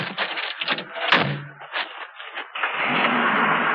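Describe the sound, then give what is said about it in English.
A pickup truck, with its keys left in the ignition, pulls away as Leland drives it off: a door thunks shut amid engine rumble and revving, then a steady broad roar of the vehicle driving off fills the last second. No voices. “Leland's driven off.”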